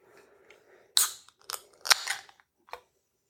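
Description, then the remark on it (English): A can, decorated with a sailboat, a sunset and a skeleton, being cracked open: a few sharp metallic clicks and snaps from the tab, including one louder crack, spaced over a couple of seconds with no talking. “All right, let's crack her open, eh?”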